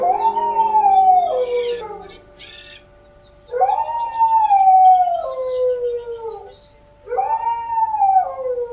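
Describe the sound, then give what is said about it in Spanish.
A dog at the neighbouring dwelling, where a wake is being held, howls mournfully three times, each long, wavering cry rising and then sliding down before trailing off, with short pauses between. The howls are clear, with no voices. “El perro de la accesoría vecina, donde hay un velorio, aúlla lúgubremente.”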